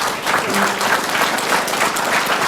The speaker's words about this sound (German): Vielen, vielen Dank. Das ist euer Applaus nochmal, eure Urkunden.